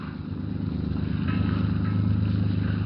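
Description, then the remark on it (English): A motorboat engine drones steadily and loudly, a low throbbing hum with a faint rattling texture, running continuously without any voices, as the boat is steered out to sea at night. “Turk steers the motorcraft out to sea.”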